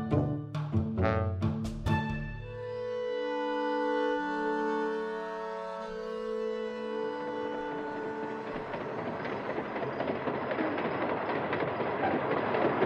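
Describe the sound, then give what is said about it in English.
A passenger train rumbles and clatters along the rails, opening with sharp rhythmic clicks and tonal hums before settling into a steady, dense, loud roar of wheels on track. “Attention passengers. Food service has now begun in the dining car.”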